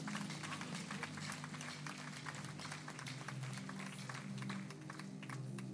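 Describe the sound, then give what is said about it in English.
A church audience claps as a 'clap offering' for the biblical Joseph, a dense patter of many hands sustained for several seconds at an even, fairly loud level, with a low murmur of voices beneath. “Another clap offering for Joseph.”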